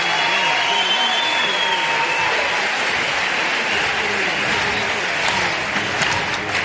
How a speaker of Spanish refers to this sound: Todavía el carnaval en la calle no, pero esto ya es carnaval aquí con el Gran Teatro Falla. Eso es, muy aplaudida la tanda de cuplé, sobre todo este segundo en el que han tirado del doble sentido.